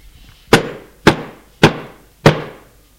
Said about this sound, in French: La pièce où il était petite et sale. Frappa à la porte, de grands coups brutaux.